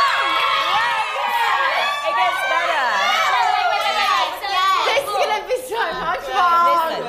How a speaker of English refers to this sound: That applause faded quite quickly, didn't it? Didn't it, yeah.